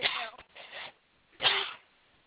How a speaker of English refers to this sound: I know that was kind of a wild cough.